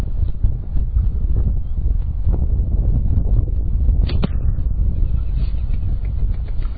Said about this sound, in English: Jaquan just a little low. Good shot. They have three arrows from each spot, 10 yards away.